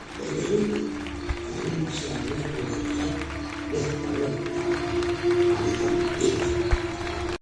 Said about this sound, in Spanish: Municipio y unos ciudadanos que aplauden, lógicamente, por ese homenaje que se está realizando en estas fiestas de moros y cristianos de Muchamel.